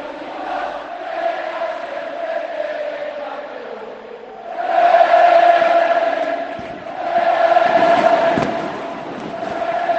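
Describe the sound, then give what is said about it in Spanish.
A huge crowd of Real Betis fans at the Benito Villamarín stadium sings the club anthem without accompaniment, the massed voices swelling in two loud surges, with scattered bangs and crackles of fireworks in the mix. “Hay fuegos artificiales en el Benito Villamarín, canta el himno a capela del Betis, la afición de este bendito estadio que despide a su rey.”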